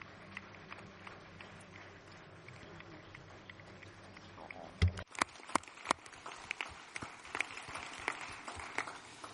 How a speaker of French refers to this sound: On va applaudir tous. Levez-vous tous, s'il vous plaît. Et on veut vous célébrer.